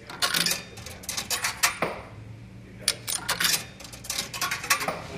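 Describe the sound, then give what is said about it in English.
A quarter drops into a bar jukebox, rattling and clinking through the mechanism in a quick series of metallic clicks over a low background hum, with no one speaking. “For a handful of coins, he'll tell you his story. OTM's Rex Doan drops the first quarter.”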